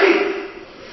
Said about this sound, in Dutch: Gezondheid.